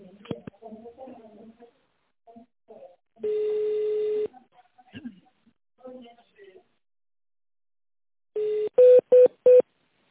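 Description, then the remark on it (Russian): Touch-tone telephone dialing on a call to the automated line of the Center for Strategic Research "North-West": after some muffled speech and one sustained electronic beep, a tone is followed by three short, loud keypad beeps in quick, even succession as an extension is entered in tone mode. “Если вы знаете добавочный номер сотрудника, пожалуйста, наберите его в тоновом режиме или дождитесь ответа секретаря.”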